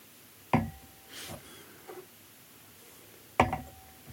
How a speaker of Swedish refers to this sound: Och vi bara sniffar igenom de här lite snabbt igen då, för att se vad vi har.